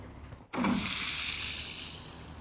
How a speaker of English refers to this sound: Here's a chunk of pervious concrete. As you can see, the water will just filter through, going to show that when it rains, it drains.